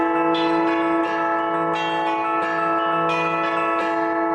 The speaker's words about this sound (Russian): После торжественного богослужения от Святой Софии под звон колоколов молящиеся крестным ходом прошли к Спасо-Ефросиньевскому женскому монастырю, где находятся мощи преподобной.